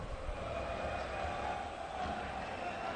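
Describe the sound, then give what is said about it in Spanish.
A dense crowd entering Mendizorroza stadium, chanting "Tebas, vente ya", fills the air with a steady, continuous roar of mingled voices, holding an even loudness throughout with no clear pauses or single standout voices. “Ya, porque empieza a entrar la gente al grito de Tebas, vente ya, suena Mendizorroza.”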